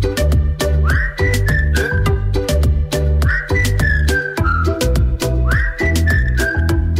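A whistled melody in short gliding phrases, repeated about every two and a half seconds, over a loud, full backing track with a steady thumping beat and bass.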